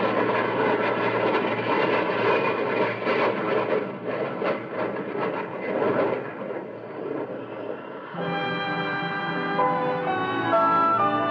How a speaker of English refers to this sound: It's that beautiful, gathering, echoing rumble overhead of a swift, streaking silver jet. Your airplane.